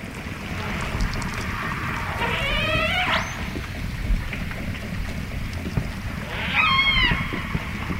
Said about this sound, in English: You can hear echolocation and then some sporadic calls from the AJs.